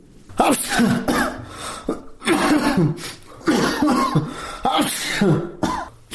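A 43-year-old man lying in his sickbed in Faryab province, Afghanistan, ill with coronavirus-like symptoms, sneezes and splutters repeatedly, a series of harsh, explosive bursts with raspy, breathy tails, coming in uneven clusters with short pauses between them.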